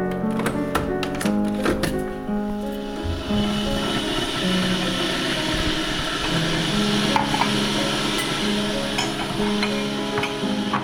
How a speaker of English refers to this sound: I'll get the kettle on. Brilliant.